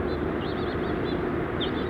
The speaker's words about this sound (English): Bunch of house finches.